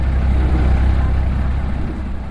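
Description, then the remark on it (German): A loud, steady longtail boat engine roars continuously, heavy low rumble with a broad wash of noise, as the boat races across a large river toward the canals of Thonburi; no voices. “Das Boot braust über den großen Fluss und biegt schon bald in einen schmalen Kanal ein.”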